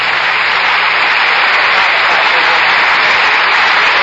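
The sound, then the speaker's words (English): Members of Congress, rising to their feet, applaud President Nixon after his speech asking their support on his new economic policy, in the chamber of the House of Representatives: a steady, dense roar of clapping that holds at an even, loud level throughout, with no voices standing out. “Congress rising and applauding President Nixon after his speech asking their support on his new economic policy.”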